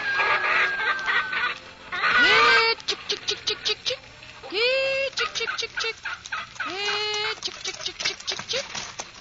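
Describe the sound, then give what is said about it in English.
A flock of chickens in a farmyard clucks busily, with rapid bursts of short clucks broken up by a few louder, drawn-out squawks rising in pitch. “Oh, I'd go on with the chores around the farm, feed the chickens and tend the garden day after day.”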